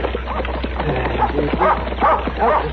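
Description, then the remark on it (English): A dog barks and yips repeatedly in quick, uneven bursts, moderately loud, with a steady low hum running underneath. “Get away, dog.”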